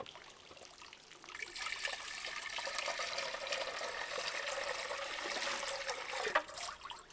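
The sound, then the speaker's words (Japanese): Water pours in a steady, continuous stream for several seconds, fairly loud, with a soft splashing hiss as it runs over a surface, rinsing soap foam off a person's body. No one speaks. “ではお体流しますね。”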